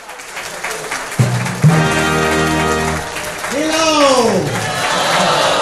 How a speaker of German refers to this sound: Empfangen Sie ihn mit dem entsprechenden Applaus.